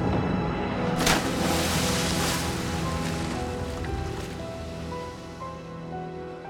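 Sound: rough sea waves crashing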